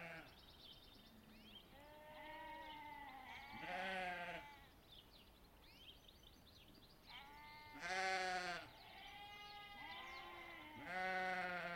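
Several sheep, ewes and lambs during lambing season, bleat in turn in a small valley on a gusty day, their calls varied in pitch and tone, with louder bleats around the middle and end over a steady background of outdoor noise.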